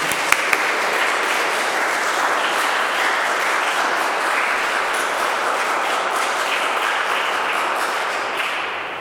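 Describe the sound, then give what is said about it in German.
Sustained applause for the children who sang fills a church, a dense, steady wash of many hands clapping at once, loud and even for about nine seconds before easing slightly at the end, with no voices over it. “Ein Applaus für die Kinder.”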